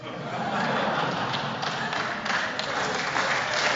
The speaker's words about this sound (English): I don't know why they're applauding.